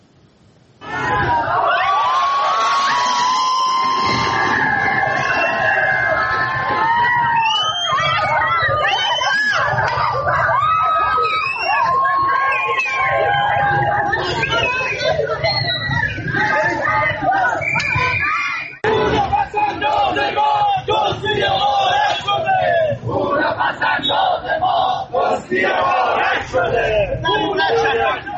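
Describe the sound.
A protest crowd of Caspian financial institution depositors who lost their money, gathered in front of the Central Bank building on Mirdamad Street in Tehran, shouts and yells as police intervene, in a loud, chaotic din of overlapping voices, with sharp cries rising above the roar and a brief jolt partway through before the clamor continues.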